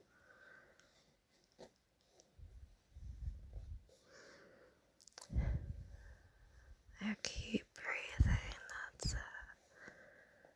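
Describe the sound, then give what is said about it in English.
Soft, light fingernail scratches circling around a head, in quiet, irregular bursts, some rough and crackly, with breathy hissing and faint whisper-like sounds between them and a few louder scrapes near the end. “Using my fingernails now to give you some light scratches.”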